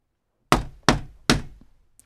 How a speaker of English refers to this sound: Finally, he knocked on the shop door.